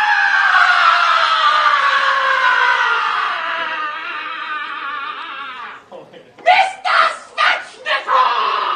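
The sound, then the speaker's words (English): A scream sound effect played as a drop: a long, loud scream with a slowly falling pitch holds for about six seconds, then breaks off into a few short, punchy vocal bursts. “I'm probably going to take that scream out of it and just make it Mr.”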